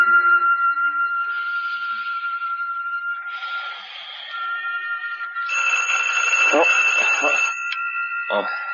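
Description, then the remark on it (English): A telephone rings with a steady, shrill electronic tone that swells in layered pulses and keeps going for the full eight seconds, growing denser and brighter toward the end. “Phone.”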